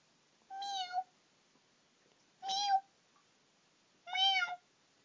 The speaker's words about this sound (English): It is a kitten. She is stuck in the whipped cream, too.